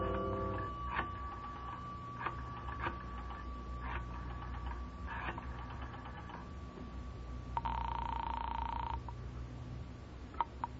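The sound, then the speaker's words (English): A phone is dialed in a phone booth in the lobby of a residential hotel: a steady dial tone hums while a series of clicks and short tones tap out the number, followed by a brief burst of ringing, with no talking. “I decided I'd try calling her again. Walked past the cigar stand in the lobby to a row of phone booths at the rear.”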